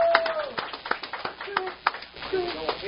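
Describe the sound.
An audience applauding the winner of the Pandora Jewelers Inside Florida Racing Driver of the Year award, with a dense, irregular patter of clapping mixed with whoops and shouted voices that rise and fall over the few seconds.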